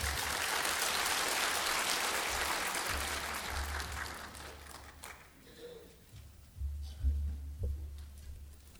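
A church audience claps to welcome a new pastor in a dense, steady burst of applause that lasts several seconds, then thins out and fades, leaving faint room noise and a low hum.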